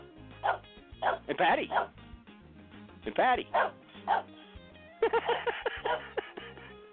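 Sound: dog barking and whimpering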